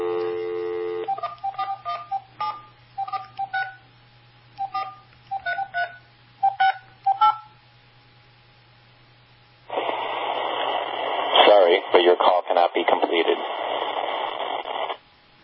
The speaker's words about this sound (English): That's pretty polite, isn't it? Sorry, but your call cannot be completed. That's what we get when we try to make phone calls. Unbelievable.